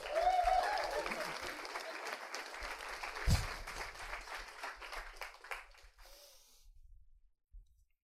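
An audience breaks into applause, a dense wash of clapping that starts strong and gradually thins out and fades over several seconds, with a low thump midway.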